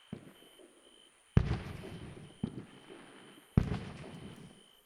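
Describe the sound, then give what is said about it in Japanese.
Three fireworks bursts go off, each a sharp boom that blooms and is followed by a rumbling, crackly tail of small after-sparks, like a large sparkler, that fades before the next; the second one lands softer than the other two. “今のみたいな咲いた後、小さくパラッパラッパラッってなるやつが好きなんですよ。”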